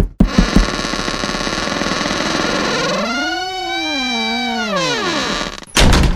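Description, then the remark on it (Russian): A door creaks slowly open with a drawn-out, wavering squeal that rises and falls in pitch for a couple of seconds over a steady background bed, then cuts off abruptly. “Только зеркало пропело, дверь тихонько заскрипела.”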